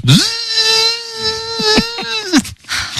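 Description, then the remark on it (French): A vacuum cleaner being used on a carpet runs with a steady, buzzing high-pitched whine for about two seconds, a few sharp knocks breaking in, before it cuts off and winds down abruptly. “Bon, je passe l'aspirateur.”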